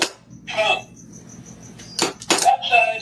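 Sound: dog scratching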